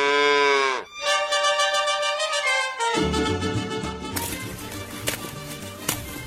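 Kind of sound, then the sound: animal, cow mooing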